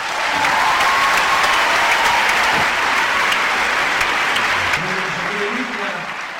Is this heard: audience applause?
yes